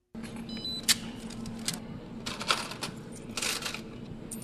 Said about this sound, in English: Cash registers ring often at the brand new Goodwill store on Renner Road on Columbus's west side.